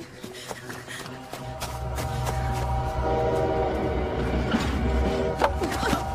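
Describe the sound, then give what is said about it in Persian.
A train rumbles steadily past behind a hill, growing louder after a moment, with sustained tonal horn blasts sounding over clanking and rolling noise. No one speaks. “زود باش زود باش قطار پشت این تپه زود باش”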